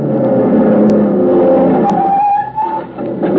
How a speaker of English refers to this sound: They were racing in a low, cut-down blue car. The frame had looked familiar as it whizzed by me.